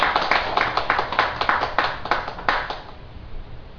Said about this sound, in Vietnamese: Xin quý vị vỗ tay một tràng vỗ tay.